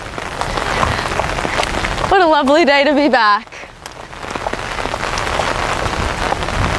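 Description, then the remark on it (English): Steady rain from a hurricane patters on a surface in a dense continuous hiss at the University of Miami, with a person briefly speaking over it partway through before the downpour carries on alone. “Hanging in the rain.”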